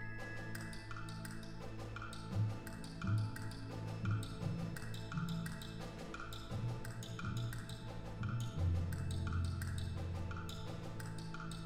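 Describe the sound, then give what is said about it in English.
Steady, evenly spaced ticking from orchestral percussion near the very end of a symphony, dry clicks repeating over sustained low orchestral chords, heard at a moderate, fairly quiet level with no voices. “One of the last things, almost the last thing we hear in this symphony is this strange ticking percussion,”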